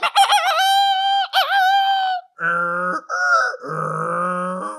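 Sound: rooster crowing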